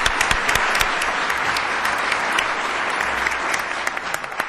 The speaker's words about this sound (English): So thank you, all of you district attorneys who are here, for your great work. You can applaud them. That's right.